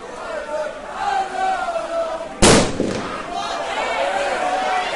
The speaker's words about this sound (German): So, und das war jetzt eine wirklich unschöne Szene. Ein Böller wird weit in Nähe des Schiedsrichterassistenten abgeworfen und der Schiedsrichter pfeift sofort dieses Spiel ab.